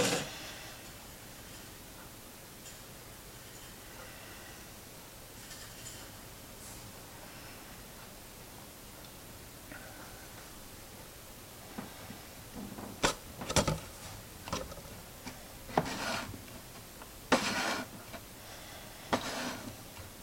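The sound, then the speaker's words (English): After a long quiet stretch, a lidded container is set down and tapped against a bench to knock bubbles off, giving about six or seven sharp knocks spaced irregularly, with no talking. “I think I'm past the first 10 seconds, so I'll set it down the bench, tap it, knock any bubbles off.”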